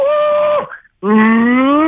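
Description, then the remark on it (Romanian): A person imitates a cow's moo twice: two long, sustained, nasal vocal tones separated by a brief pause, the second lower and gradually rising in pitch. “Și urmează a doua variantă, vasca.”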